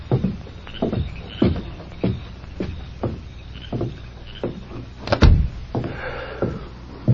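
A door swings shut with a solid thud, preceded by a run of soft, evenly spaced thumps like footsteps approaching. No one speaks.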